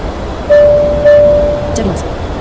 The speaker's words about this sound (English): Actually, no, it's a 767. Carry. It's a 767 flight factor that I actually, well, I modded it, but not the engine sounds.